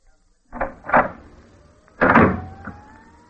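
A studio sound effect for a radio scene: a door closed very lightly, but with the sound effects mic's control dial set too high. Two soft thuds, then a sudden loud door slam with a heavy boom and a brief rattle, far too forceful for a gentle close; no one speaks.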